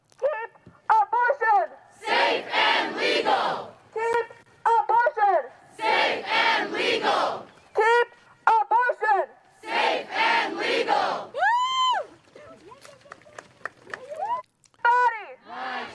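A crowd of protesters in Brett Kavanaugh's neighborhood chants and shouts in loud, rhythmic bursts, with sustained voiced cries rising and falling between the noisy waves of massed voices, pausing briefly between phrases.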